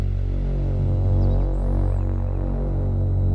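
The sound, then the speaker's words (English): A Moog synthesizer drone from an app demo holds one low, buzzy, harmonically rich tone with a slow, faint throb, and a thin wash of added white-noise hiss sits above it, with the typical filter-cutoff buildup. No one speaks. “Moog drone sound with some noise and added white noise to it and the typical buildup, the filter cut off.”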